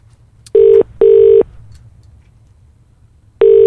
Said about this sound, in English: Here we go. The phone is ringing. Fingers crossed, Buzz Aldrin will answer the phone.